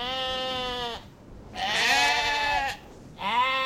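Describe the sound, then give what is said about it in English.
Sheep bleat loudly on Ian Anderson's farm in the Montezuma Hills, where more than 3,000 sheep graze beneath wind turbines; three long wavering calls in succession with brief pauses between, set against a faint outdoor background with no voices. “More than 3,000 sheep graze on Ian Anderson's farm.”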